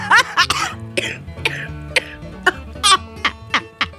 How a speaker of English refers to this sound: See? I can't even laugh without coughing up a lung.